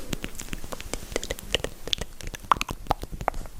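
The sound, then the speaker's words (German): Dense, irregular crunching and crackling, like ASMR chewing, with sharp clicks and a few brighter snaps over a soft, steady bed of noise. No voices. “Dieses Klackern, Knistern zwischendurch.”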